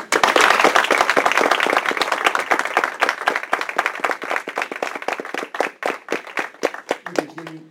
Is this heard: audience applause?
yes